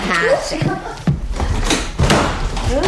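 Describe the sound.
A door in a house slams shut with a heavy bang, followed by a second thud a moment later, while people talk around it.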